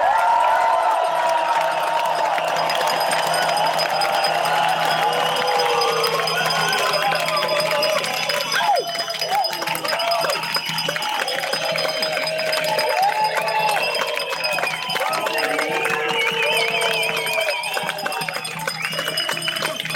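A large outdoor crowd in Augsburg cheers and whoops continuously, a loud, steady roar of many voices with rising shouts and whistles layered over it, holding at full volume for the whole stretch.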